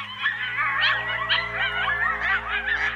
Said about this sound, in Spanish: «Sí», aullaron los lobitos.